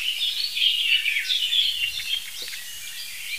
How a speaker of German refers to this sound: Es ist Tatsache so, dass immer wieder mal heftige Warnrufe aus der gleichen Stelle im Hotspot, da hatte die Amsel gehört, aus der gleichen Stelle im Hotspot entstehen wie hier.